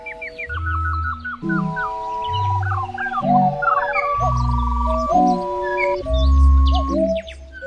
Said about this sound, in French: Qu'est-ce qui permet de distinguer les yeux fermés, une troupe de grues en vol, d'un vol de cigogne, de mouette ou de héron? Réponse, les grues crient. Elles crient, crient, crient sans arrêt. Un appel toutes les 10 à 15 secondes en moyenne.